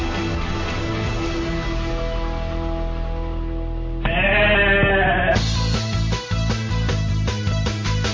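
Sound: goat bleating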